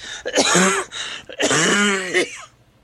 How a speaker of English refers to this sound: Well, just to be warned, there could be times where I just start hacking and coughing and have to shut down the mic, so.